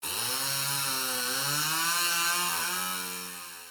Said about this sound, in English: Confused, the salesman takes the chainsaw and starts it up to see what's wrong. At which point the idiot asks, "Hey, what's that noise?"